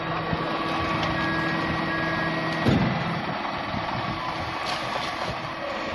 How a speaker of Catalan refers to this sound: Bé, doncs, com us dèiem, es fan gairebé les 7 del matí i allà que apareix el camió.